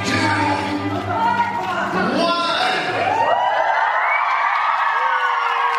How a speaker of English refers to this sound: How did you know the record had been done? Did someone blow a whistle or something to say the minute was done? When the minute was done, everyone was screaming, cheering.